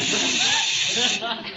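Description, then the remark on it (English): A person makes a steady, loud hiss over a telephone call that runs unbroken for over a second, with faint voice-like murmuring underneath. “are you hissing me?”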